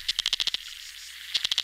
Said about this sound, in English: The isolated sounds of river bugs. Or fish grunts. Wait, fish grunt? Very bizarre.